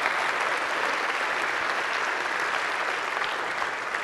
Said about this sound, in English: And so, if you would help me in all three campuses, just give God an applause for what He'll do through 600 backpacks.